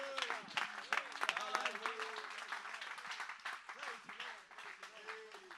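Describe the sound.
A church audience claps hands unto the Lord at the preacher's call, a dense, sustained burst of applause lasting several seconds, with voices calling out and murmuring underneath the steady clatter.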